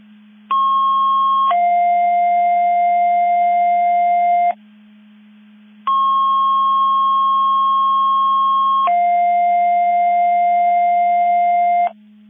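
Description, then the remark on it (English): Two loud sequences of steady electronic dispatch alerting tones, sent as a test of McHenry County Division 5 box alarm alerting receivers: each a higher pitch stepping down to a lower one and held for several seconds, with a short pause between them over a constant low hum. “CCOM testing Mavis Division 5 Mutual 8 Box Alarm Alerting Receivers.”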